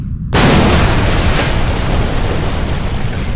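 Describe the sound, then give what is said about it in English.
Water and dirt explode from the base of a mountain about 100 yards away, hurling chunks of broken limestone: a sudden loud explosion bursts in after a brief silence, followed by a heavy, sustained rumbling roar of debris that gradually eases off over a few seconds, with no voices. “Water and dirt suddenly exploded from the base of the mountain, about 100 yards from where they all stood.”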